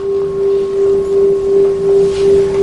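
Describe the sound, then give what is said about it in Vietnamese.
A large temple bell is struck during a bowing ritual, signaling people to stand after the third bow; it rings out in a long, steady low hum that swells and fades in slow, even pulses, with no voices. “Thật ra người thỉnh cái chuông, cắm cái nhang, thỉnh tiếng mõ, đánh cái khánh, người ta hiểu được nội tâm mình hết.”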